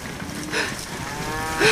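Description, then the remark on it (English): A herd of cows heading toward a village moo in short succession, one call near the middle and another louder one at the end, their low harmonic bellows rising over a steady background hiss. “Those cows are heading straight for the village!”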